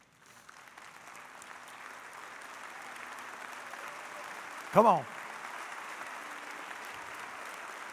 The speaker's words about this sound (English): Would you stand to your feet and give the Lord Jesus a big hand clap?